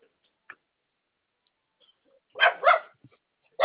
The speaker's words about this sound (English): I got dogs too. Yeah, they always see people go by my house and they start barking.